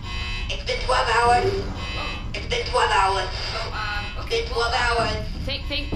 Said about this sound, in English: It's been 12 hours. Thank you. Is that 12 hour alarm? Yeah.